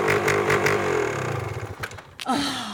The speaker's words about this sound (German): Und woher soll ich wissen, ob der Motor funktioniert, wenn ich es nicht ausprobiere?